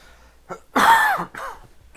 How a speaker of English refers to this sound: Cough.